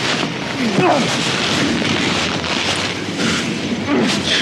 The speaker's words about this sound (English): And the clouds opened and let down the rain like a waterfall.